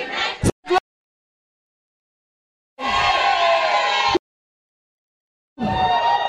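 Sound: audience shouting in praise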